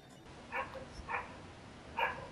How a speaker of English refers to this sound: Some neighbour's dog, woof, woof, woof. What? No, the neighbour's dog's barking. Can't you hear him?